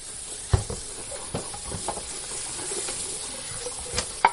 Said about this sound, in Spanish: Les escuchas fregar los platos y los cubiertos de la última comida a pesar de tener un lavavajillas. Lo hacen para ahorrar electricidad porque para los jóvenes llegar a final de mes es una auténtica odisea.